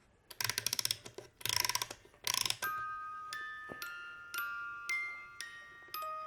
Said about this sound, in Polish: Drzwiczki się teraz zamykają. Teraz się otwierają powoli.